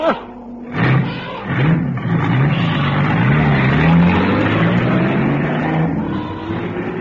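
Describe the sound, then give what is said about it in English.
A heavy truck engine roars and revs continuously in Africa, its low growl rising and falling in pitch over several seconds, loud and unbroken, with a harsh, strained edge as its wheels churn in mud. “Well, stand well away from the truck”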